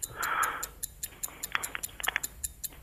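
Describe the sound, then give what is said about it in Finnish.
A game timer clock ticks steadily as a quiz round on the topic of TV series starts, with short sharp clicks repeating about every quarter second, fairly quiet with a faint hiss and some brief overlapping noise. “Aihekategoria on TV-sarjat ja täältä lähtee kello.”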